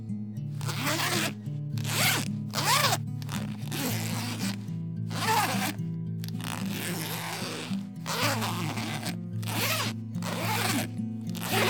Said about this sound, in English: Just this thing's got a lot of zippers. This is crazy. This is way too many zippers.